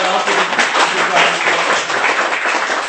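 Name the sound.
audience clapping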